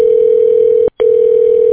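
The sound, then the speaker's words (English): A telephone ringback tone sounds twice, a steady electronic hum broken by a short gap, loud with no voices present. “Ringing.”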